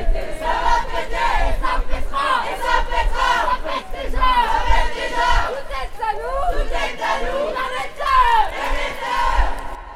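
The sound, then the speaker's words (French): A protest march crowd shouting together at the Place des Carmes during a demonstration, many voices rising and falling in loud, continuous waves of chanting and yelling with overlapping chatter throughout. “donc nous sommes bien sur place, sur la place des Carmes, pendant la manifestation.”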